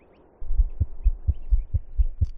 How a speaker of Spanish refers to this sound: El del latido de un bebé.